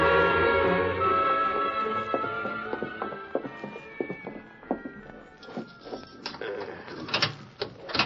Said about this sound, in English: There's the door unlocked, Thorne. In you go.